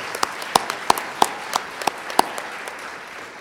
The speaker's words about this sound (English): So this is another group who really deserves a big round of applause.